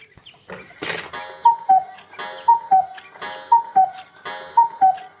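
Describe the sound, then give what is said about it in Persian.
A pendulum clock with a big swinging pendulum ticks with sharp mechanical clicks, joined four times by a steady two-note falling chime, one roughly each second, clear and alone with no voices. “روی تنش هم یه پاندول بزرگ داره که تکون تکون میخوره.”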